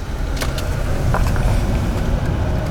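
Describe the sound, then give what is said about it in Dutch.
Steady low rumble inside a court interpreter's moving car, with constant road and engine noise and a few faint rattles and clicks, no voices. “AGOS-verslaggever Huub Jaspers rijdt mee in de auto van gerechtstolk Mustafa Loukili.”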